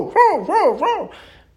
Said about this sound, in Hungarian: Ó, hát lefekvés előtt véletlenül nyitva felejtettük az ajtót, s bejött egy csomó kutya az ágy alá. Most megérezték a szagodat, s ki akarnak rontani. Jaj, fog meg őket, szegény ember, hadd tudjak elfutni. Hangosabban ugassatok.